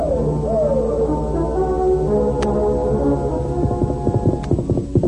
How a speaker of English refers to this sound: In a moment, the Indians were mounted and racing in pursuit of Tonto and the masked man who carried him away.